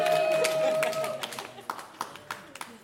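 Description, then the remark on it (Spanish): An audience at a show in Río Piedras applauds, a dense wash of clapping at first with a steady tone underneath, then thinning out to scattered individual claps before it fades. “Gente, hablando de gente a cuya la vida no ha sido justa, fuerte aplauso para”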